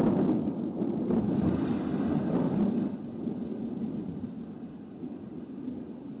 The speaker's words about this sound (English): I looked out the window, and the sky grew darker and darker. The thunder seemed to make the earth shake.